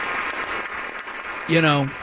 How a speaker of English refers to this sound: Real quick, thank you to all of you listeners out there. Round of applause, please. Round of big applause. All of you out there who once again made our ratings really, really good.